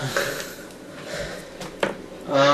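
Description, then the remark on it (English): A small dog, about the size of a fist, pants in quick, breathy bursts, soft huffs and sniffs scattered through the moment before a voice begins speaking at the end. “Hello, heavily panting dog that's about the size of my fist.”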